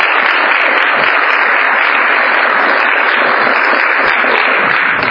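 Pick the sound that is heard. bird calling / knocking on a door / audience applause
audience applause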